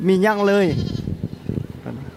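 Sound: goats bleating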